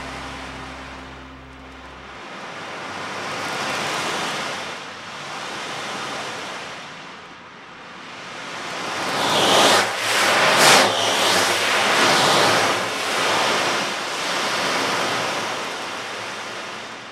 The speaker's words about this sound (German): Also das hat eine Person gespielt und das ist eine Art Regenmacher, glaube ich. Das ist entweder so ein langer Stab oder in einer Trommel Kugeln drin und die hin und her geschwenkt werden und dann hört sich das an wie Regen.